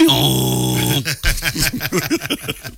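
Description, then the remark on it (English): A donkey brays, starting with a long, harsh, buzzing note and breaking into a rapid series of choppy, rhythmic honks that rise and fall in pitch, fairly loud throughout. “It's a bray. It's a bray. There you go.”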